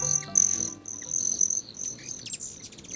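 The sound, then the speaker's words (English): A broad-tailed hummingbird's high, thin metallic trill buzzes in bursts that break and resume, with a few sharp chirps near the end. It is moderately loud, with no voices. “Broad-tailed hummingbirds are small but hardy creatures built for life in the mountains.”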